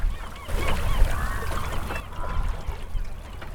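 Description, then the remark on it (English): A gull colony on John's Island, between Frenchboro and Swan's Island off Mount Desert Island, calls in a steady, overlapping chorus, many birds squawking and crying at once, over a constant low rumble of wind or surf, heard while sailing past. “But it's a gull colony, so you can hear the gulls.”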